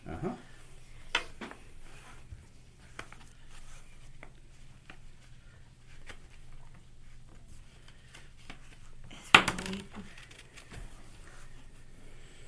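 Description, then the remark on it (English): A d20 die, rolled for a strike in a tabletop game, clatters across a tabletop: scattered light clicks and taps, then one sharper, louder rattle as it lands on 15, over a faint steady low hum. “Go ahead and give me a strike. Dice. D20.”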